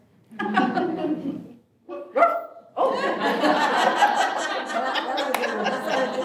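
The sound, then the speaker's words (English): A dog barks and yowls: a drawn-out harmonic cry, a couple of quick sharp barks, then a long, busy stretch of continuous vocalizing. “There's your guide. Yeah, take her home.”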